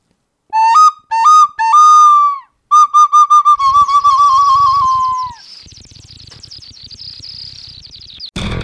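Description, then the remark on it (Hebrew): A person whistles a bird imitation: three loud rising whistle notes, then a rapid trill of short pulsing tones that fades into soft, busy background warbling. “תשמעו אותי עושה חיקוי של ציפור.”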